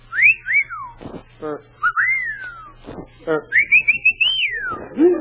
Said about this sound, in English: Guess I'll walk past the beauty powder, give the girls a chance to whistle at me. I wonder how a girl would whistle at me. Would it be...